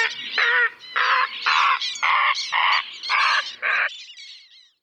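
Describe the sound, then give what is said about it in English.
A loud, busy burst of summer birdsong from martins, warblers and herons: harsh, raspy calls repeat in about seven quick pulses, layered together, then trail off into thinner chirps. “Until by summer, a cacophony of martins and warblers and herons.”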